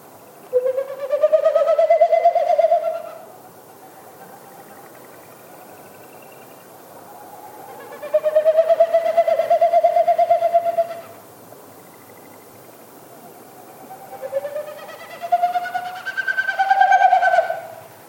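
Three separate bouts of a Wilson's snipe winnowing in Yellowstone National Park in spring, a territorial sound made with its wings and tail rather than its voice. Each is a few seconds of hollow, rapidly pulsing, hoot-like whistling that rises and fades. Quiet gaps separate them, with no voices.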